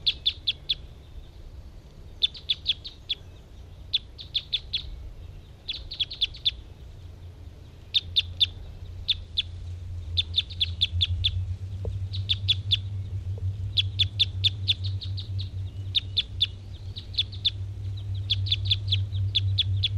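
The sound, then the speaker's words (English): A bird sings up close, repeating quick clusters of bright, high chirpy notes every second or two over a low steady rumble that grows louder partway through, with no one talking. “Here's that one that was getting interested. And was singing real close.”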